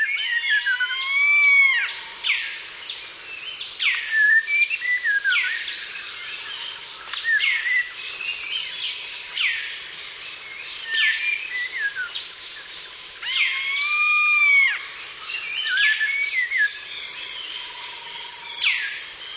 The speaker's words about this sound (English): Jean Roche recorded this dawn chorus in the jungles along the banks of the Kinabathangan River in Borneo.